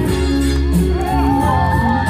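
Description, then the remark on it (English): A rally crowd cheers and whoops steadily, many voices blending into a loud, sustained roar with a few shouts rising above it, no single person speaking clearly. “Another cheer from the crowd.”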